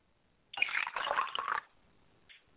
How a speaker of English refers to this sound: And as we get ready to pour the libation, ladies and gentlemen, why don't you get your cup of water and also do as I do, and I say Ashe.